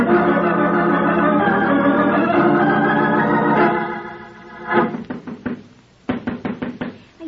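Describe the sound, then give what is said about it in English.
A steady musical tone holds for a few seconds and fades, then two quick bursts of firm knocking on the door of Professor Stafford's house follow, about four or five sharp raps each, separated by a short pause. “Then why doesn't he answer the door?”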